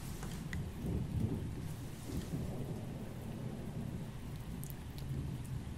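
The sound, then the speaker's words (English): Steady rain hisses throughout while deep, rolling thunder rumbles low underneath as the storm moves away. No voices, just the continuous wash of a thunderstorm. “It's going away. The storm is going away.”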